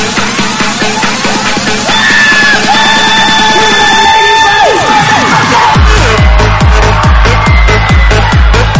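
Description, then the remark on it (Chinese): A loud crowd roars with cheers and screams, a dense wall of voices that swells and stays intense throughout, with rhythmic thumping building underneath toward the end. “Right， 准备好你的尖叫声。”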